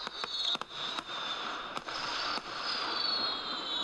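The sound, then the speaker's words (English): Fireworks at Disneyland at 9 p.m. go off in a handful of sharp, irregular cracks and pops over a constant hissing roar, with no voices. “Every night in the Disneyland, 9 o'clock at night, they have the fireworks.”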